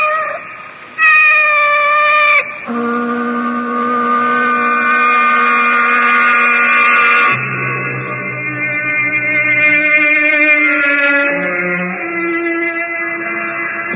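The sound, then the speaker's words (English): A female cat with yellow eyes meows loudly in long, drawn-out yowls that rise and fall in pitch, running almost continuously with only brief breaks and no one talking. “She's only a cat.”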